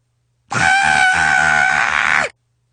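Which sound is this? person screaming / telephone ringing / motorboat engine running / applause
person screaming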